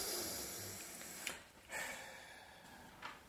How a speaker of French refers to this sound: J'entends ta respiration.